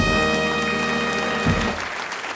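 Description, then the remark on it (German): A loud drum roll rattles beneath a sustained brass fanfare chord, a Tusch played in by the production team of the Bücherwurm radio show, ending with a sharp accent hit about two-thirds through and a brief, noisy fading tail. No one speaks. “Ihr hört, die Regie hat heute richtig Lust auf Trommelwirbel und Tusch.”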